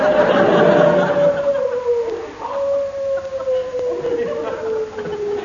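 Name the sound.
dog howling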